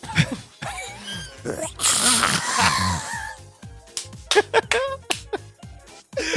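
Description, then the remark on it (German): A person imitates a lion's roar with a breathy, rasping growl lasting over a second, surrounded by short throaty vocal bursts and what sounds like laughter. “Okay, ich gebe dir auch nochmal meinen besten Löwen.”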